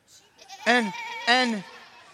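Two loud, wavering bleats from a sheep, each about a third of a second long and separated by a short pause, with faint background noise around them.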